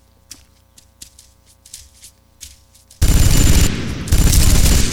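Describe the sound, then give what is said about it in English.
Video game gunfire from a very heavy, braced gun: several quieter sharp shots crack out over the first few seconds, then a loud, dense burst of rapid fire erupts and roars on with barely a pause until the end. “This should be a straight shot.”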